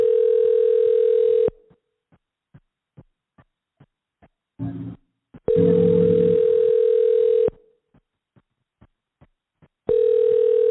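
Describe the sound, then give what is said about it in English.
A telephone ringback tone from a call to a U.S. phone number on the Andy Bandit show sounds in long, steady mid-pitched bursts separated by silent gaps with faint regular ticks; nobody picks up and the ringing keeps repeating. “So he is here with a U.S. number, but it's not working.”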